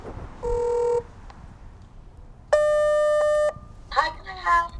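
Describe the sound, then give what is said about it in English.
Two steady electronic buzzes from a gate intercom panel, a half-second tone followed after a pause by a longer one-second tone, clear, then a voice begins speaking. “So it's off down to go and get myself buzzed in at the gate.”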